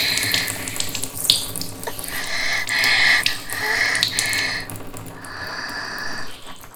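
A steady stream of urine splashing into water, running in several bursts with brief breaks before tapering off. Nobody speaks.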